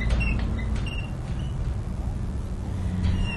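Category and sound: vehicle, city bus arriving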